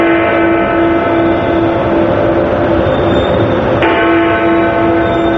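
Big Ben, the clock tower bell in London, rings loudly and continuously for three minutes in the morning to mark the first day of the Olympic Games. Its dense, sustained clanging tones blend into a steady wash of sound with no voices.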